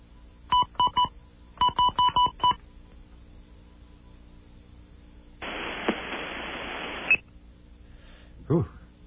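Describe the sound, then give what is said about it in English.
Telephone keypad dialing tones beep in two quick runs of four or five pitched tones each, followed after a pause by a steady burst of hissing static and a short final click, as a call to the Philippines is dialed again on a second line and keeps ringing unanswered. “That one is still ringing. Let's try this again.”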